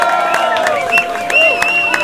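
A crowd applauds and cheers for a band, with a steady patter of clapping under sustained whoops and high, wavering whistles, all fairly loud and continuous.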